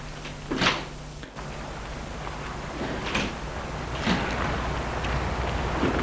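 A taxi door clunks open and shut outside a narrow building lit with the sign Hôtel Terme, amid several muffled knocks and rattles, with a steady low engine hum running underneath throughout.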